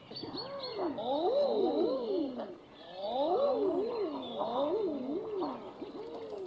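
Several low, crooning cooing calls of common eider ducks rise and fall over and over, overlapping in soft rounded moans, with a faint high chatter of other birds behind them and no one talking.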